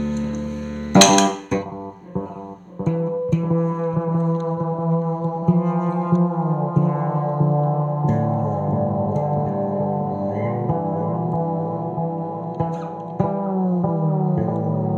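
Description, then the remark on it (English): Electric bass notes played through a combined delay and reverb pedal's delay effect, a bright plucked attack followed by repeating echoes that pile up into a steady, humming low drone for the rest of the passage. “So here, this one, it's a great sounding delay.”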